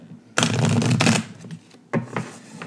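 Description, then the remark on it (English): A deck of mermaid oracle cards is shuffled in a long, dense riffle of papery flutter, followed after a brief pause by a shorter, softer burst of card slaps. No one speaks. “I was just going to draw one, but another card popped out.”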